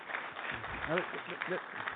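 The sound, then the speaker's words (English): A crowd applauds a speaker during a speech about government spending, in a steady, dense wash of clapping for about two seconds, with a few voices calling out briefly in the middle. “I'm not trying to elicit applause, thank you, but and our plan has worked.”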